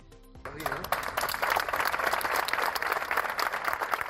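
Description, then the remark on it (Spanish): Colleagues standing in a circle clap steadily and loudly in dense, sustained applause for a retiring National Police subinspector on his last service, swelling in within the first half second and holding for several seconds. “Todos sus compañeros le hicieron un corro, le daban este aplauso en su último servicio, un agente que en los últimos años ha sido el enlace de comerciantes mayores y vecinos de Mérida en general.”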